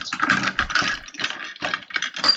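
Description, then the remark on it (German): Rustling and light clattering as things are shuffled around in a box, coming in uneven bursts with brief pauses, with no voices. “Ach krass, guck mal, was ich hier noch in dieser Kiste Hört habe. ihr, wie es raschelt?”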